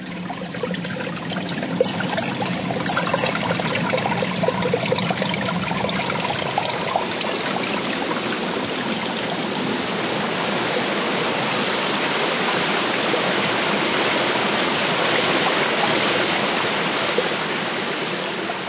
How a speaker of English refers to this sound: Instead of getting an overall oral picture, I was doing fine detailed scrutiny of different parts of the falls. An extension of your ears of sorts.